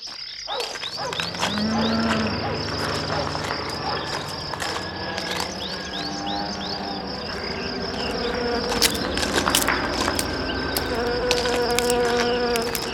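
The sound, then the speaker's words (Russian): Ambience in a pear orchard of the Zhmakovsky 'Raipo' plant, full of buzzing insects: a steady, high-pitched drone runs throughout, layered with scattered chirps and flitting buzzes at a fairly constant loudness. No one speaks. “И вот мы в прекрасном грушевом саду.”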